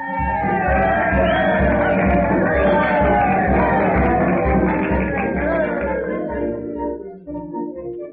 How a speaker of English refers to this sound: A big New Year's parade is being viewed with great enthusiasm. The brass band is marching in all its glory. There are floats representing historical scenes. There are cowboys and Indians. It's an impressive parade, calling for applause.